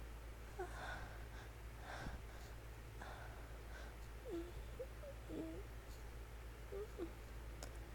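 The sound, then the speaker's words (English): Heavy, airy breaths gust into the microphone in several rough bursts, with a few soft murmured vocal sounds in between over a steady low hum. “I hope I'm not breathing too loud because last time I kept breathing on the microphone.”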